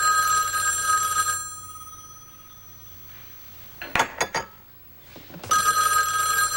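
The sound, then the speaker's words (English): An old-fashioned telephone bell rings loudly in two long bursts separated by a quiet pause, with a few brief clinks and knocks in between. No one speaks. “She answers the phone.”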